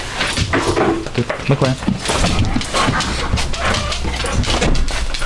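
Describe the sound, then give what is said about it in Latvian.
A Dutch shepherd detection dog whimpers and barks in short bursts amid busy clattering and shuffling movement, with people's voices murmuring in the background, while searching for prohibited substances at a prison. “Arī šoreiz holandis ganu suns ir ko saodis.”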